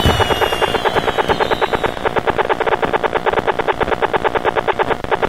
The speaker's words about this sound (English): Yay! All kinds of applause. Fireworks and stuff. So there you go.